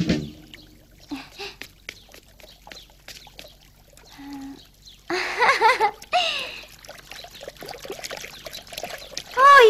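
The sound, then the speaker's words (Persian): Fresh, ice-cold spring water trickles and pours in a steady, splashing stream that starts about halfway through after a quieter stretch of faint clicks and rustles, with brief voice-like sounds near the end. “چشمه هورا، بالاخره آب یخ تازه پیدا کردم. واقعا یخه، همونطوری که آقای سزمن میخواست.”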